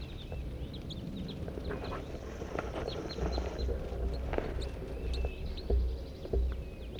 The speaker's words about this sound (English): Oh my gosh, here's a flock of 8 crossbills.